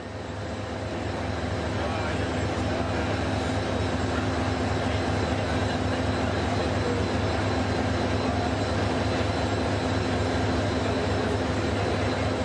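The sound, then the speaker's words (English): A new electric ETS train hums and rumbles steadily, a constant mechanical drone with low tonal whine, as it departs northbound from JB Central Station in Johor Bahru on its first ever service, with faint indistinct voices in the background. “Okay, you're now looking at live pictures out of JB Central Station, where the northbound train is scheduled to depart on its first ever service.”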